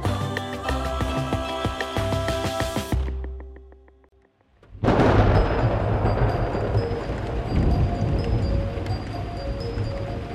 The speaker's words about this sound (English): On Easter Day, dark gray clouds cover the sky as rain pours down across the countryside.